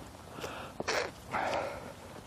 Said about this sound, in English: That wasn't me blowing my nose. I was trying to pop my eardrums, but I didn't.